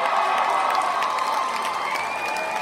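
An audience member shouts out a song request amid loud, steady crowd noise and cheering at a live band show, with a thin whistle rising toward the end.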